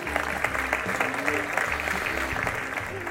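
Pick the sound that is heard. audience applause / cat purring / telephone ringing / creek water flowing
audience applause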